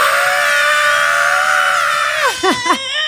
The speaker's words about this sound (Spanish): Les voy a dar 3 segundos si quieren subir los vidrios. Y a la de tres todos vamos a gritar. ¿Estás listo? Ok. Una, dos tres. ¡Tres!